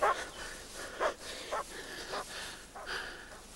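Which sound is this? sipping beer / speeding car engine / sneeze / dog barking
dog barking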